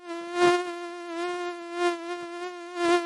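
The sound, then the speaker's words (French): A common mosquito's thin, high-pitched whine hums steadily, swelling slightly louder a few times, with no voices present. “Ce petit bruit caractéristique qui vous agace et vous met en alerte au milieu de la nuit, c'est celui d'un moustique commun, car le moustique tigre, lui, est diurne et silencieux.”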